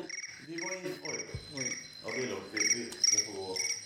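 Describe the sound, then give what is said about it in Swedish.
A phone rings with a rapid, high-pitched trilling tone that pulses steadily throughout, while people talk over it. “Ja, nu ringer den där.”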